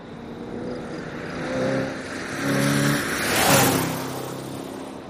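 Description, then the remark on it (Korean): A racing car engine revs hard in a few rising surges, its whine climbing with each burst of throttle before roaring louder near the end, as it races at top speed through empty streets into the city. No one speaks. “시내로 들어가는 차편도 가능하면 밤이나 아주 이른 시간에 사람이 없는 텅 빈 거리를 최대 속력을 다해서 질주할 수 있는 경주용 자동차를 사용했다.”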